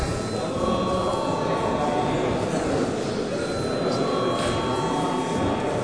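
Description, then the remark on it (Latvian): A loud electric parliament session bell rings continuously and steadily for several seconds, a harsh, buzzing clatter without pause or change in volume, rung as the debate breaks for a recess. “Paldies, debates turpināsim pēc pārtraukuma. Lūdzu, zvanu.”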